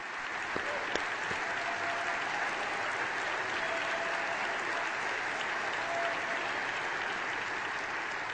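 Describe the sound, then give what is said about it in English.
Sustained applause from a large audience, a dense, even roar of clapping that holds steady at a fairly loud level for the whole stretch without fading. “Now that deserves enormous applause.”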